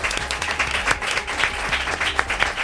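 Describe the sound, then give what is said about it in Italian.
An audience applauds steadily, welcoming two voice-actor guests; many hands clapping in a dense, continuous wash with scattered sharper claps throughout, no voices standing out. “Ragazzi, un applauso.”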